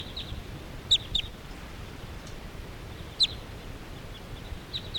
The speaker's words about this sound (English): And meanwhile, all these crossbills are hanging around this area, but they're not all that interested in going down to the decoys. Stop. So recording, the flock is flying away.